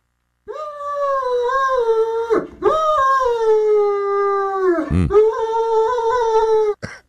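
animal, dog howling and whimpering

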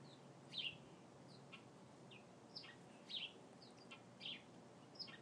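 bird, birds chirping

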